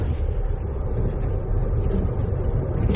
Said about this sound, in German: Ich könnte jetzt natürlich einfach weiter sabbeln mit Eisenbahngeräuschen im Hintergrund. Also wir senden natürlich aus dem Zug, das ist ja wohl klar. Das ist unser mobiles Studio 3.